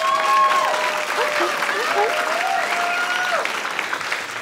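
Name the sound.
audience applause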